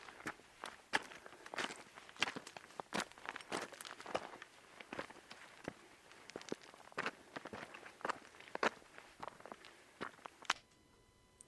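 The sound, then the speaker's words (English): Footsteps crunching steadily up a mountain path on the Untersberg, just outside Salzburg: a quick irregular series of sharp, gritty scuffs and crackles on gravel, moderately loud with no talking. “Tonight's episode, we're climbing up the Untersberg, just outside of Salzburg.”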